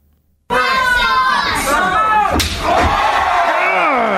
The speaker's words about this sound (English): She puts me in a half Nelson and German suplexes me, which is really cool. You don't need the manchaza. Here's the slap.